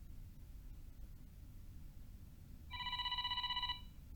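A phone line rings with a rapid, warbling electronic tone lasting about a second, heard as if through the caller's handset over a low hum of background noise, as a man phones the company Yamabiko Shoji to ask where it is located. No one speaks.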